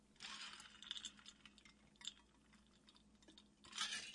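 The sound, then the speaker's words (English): Ice cubes clink and rattle inside a Cotopaxi sustainable water bottle filled with ice and water as someone takes a few sips, with soft liquid slurps and small clinks, quiet, and no talking. “I've got my little my little sustainable water bottle here from Cotopaxi.”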